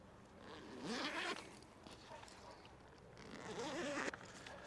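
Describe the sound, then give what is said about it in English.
A backpack zipper is pulled in two bursts, each a raspy, rising ratcheting zip lasting about a second, fairly loud against a quiet background with no voices. “Oh, not good. Left my zipper open. Good thing I didn't lose any equipment.”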